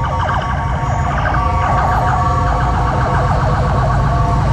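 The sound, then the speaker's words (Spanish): Sirens of several emergency vehicles (Carabineros police, fire engines and ambulances) passing along a highway wail and overlap, their rising and falling tones layered over a constant low rumble of heavy, jammed traffic caused by the emergency. No one speaks. “Todos los vehículos de emergencia de carabineros, bomberos, ambulancias están pasando por la carretera y hay un atochamiento gigantesco producto de esta emergencia”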